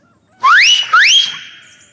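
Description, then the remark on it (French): A loud, piercing whistle made with two index fingers in the mouth: two quick rising sweeps back to back, the second sustaining into a held high note that trails off, with no one talking. “mit ses 2 index à la gueule et poussa l'un de ses fameux sifflements.”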